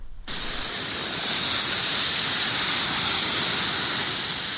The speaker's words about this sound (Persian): صدای سوختن علف‌های خشک، آتش سوزی گسترده جنگل‌های شمال اسپانیا که هفته پیش آسمان مناطق شمالی این کشور را سیاه کرد. آتش سوزی ناشی از موج گرمایی که بیشتر مناطق نیمکره شمالی را فرا گرفته.